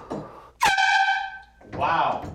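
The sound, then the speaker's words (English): A single loud blast from an old canned air horn, a harsh steady blare lasting about a second, with a person's voice briefly before and right after it. “There's this old can of air horn. Is it getting louder with age?”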